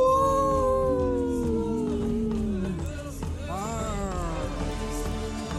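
Wolves howl in long, sliding tones that rise and fall, several voices overlapping into a chorus toward the end, steady and fairly loud throughout with no talking.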